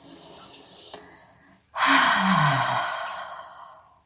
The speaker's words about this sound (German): Du kannst nochmal ganz tief atmen.